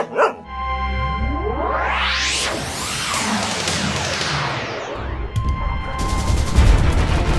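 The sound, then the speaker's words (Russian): A loud, chaotic wartime battle scene: a dog with a Red Cross bag tied to its side barks amid rumbling explosions, rushing whooshes and bursts of gunfire, with no one speaking and the din growing denser toward the end. “Идет бой! Я вижу собаку!”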